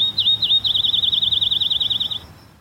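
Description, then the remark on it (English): A bird sings a rapid, high trill of about twenty evenly spaced chirps lasting two seconds, clear, with a faint low rumble underneath and no voices. “Maybe we should just play some birds right now. Let's play a bird sound.”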